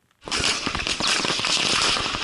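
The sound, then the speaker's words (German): A dense, rapid volley of gunshots crackles loudly and continuously for about two seconds, the sharp reports overlapping into a harsh barrage with no voices, during one of the worst Islamist attacks in Burkina Faso, West Africa. “Schüsse sind zu hören.”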